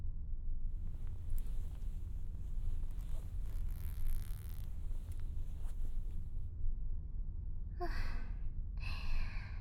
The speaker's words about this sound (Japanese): チャック閉めとこ。